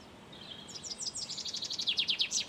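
A chaffinch sings in the background beside a canal: a quick run of high, repeated descending notes that speeds up and grows slightly louder, ending in a brief flourish over faint background hiss.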